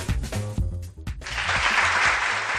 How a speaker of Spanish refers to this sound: Y vamos con este aplauso porque el Colegio de Arquitectos de Valladolid y el Museo Patio Herediano de Arte Contemporáneo Español están celebrando hoy lunes este Día Mundial de la Arquitectura